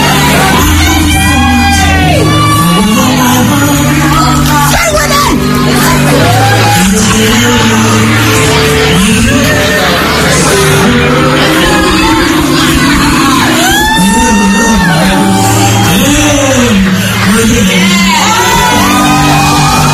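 A man in the audience screams loudly to the singer amid a raucous, whooping crowd during a live concert performance, the strained cries rising and falling over a steady, dense wall of noise for the full stretch.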